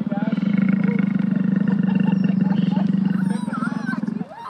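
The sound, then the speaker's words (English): A loud roar from a life-size animatronic Dilophosaurus just inside the main gates of Lake George Expedition Park (Dino Roar Valley), Lake George, rumbles for about four seconds, a deep growl with a throbbing texture and some higher screeching tones, then drops off abruptly near the end. “Just inside the main gates stands a life-size animatronic dinosaur.”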